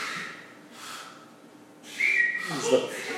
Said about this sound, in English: What is that? What are you doing? Is that like the destruction of Nineveh? What is that? Are you whistling?